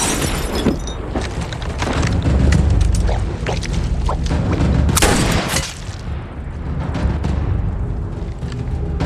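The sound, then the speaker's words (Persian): Loud, chaotic gunfire erupts in a rapid barrage of shots and booming blasts, dense and continuous like a battle, with a sharp burst standing out near the middle. “چی شلیک کرد؟”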